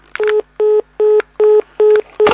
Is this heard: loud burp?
no